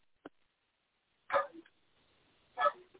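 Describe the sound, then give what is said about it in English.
A dog barks twice, two loud, sharp woofs about a second apart, with a faint click just before them and quiet in between. No one is speaking. “And my dog is barking again, so I apologize for that.”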